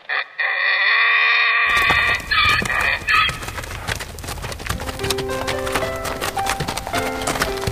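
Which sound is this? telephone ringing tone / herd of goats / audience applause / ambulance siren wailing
herd of goats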